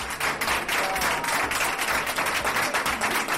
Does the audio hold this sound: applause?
yes